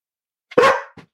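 A single loud bark from Finnegan, a pet dog, preceded by a faint short breath or yip and followed by a brief softer huff, with silence around it.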